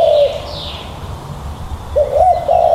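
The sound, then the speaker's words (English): A bird calls with low, hollow cooing notes, one at the start and a rising pair near the end, while a fainter higher whistle drifts in early on. There is steady low background rumble and no talking. “Sounds a bit more like a bird of prey, not such a peaceful dove.”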